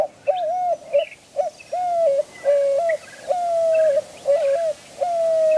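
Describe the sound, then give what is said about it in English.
Doves coo in a steady series of soft, hooting phrases, each rising and falling, repeated fairly loud, with faint chirps of other birds in the background; doves among saguaro cacti in the Sonoran Desert in summer. “The cacti provide doves with a crucial source of water in the driest part of the Sonoran summer.”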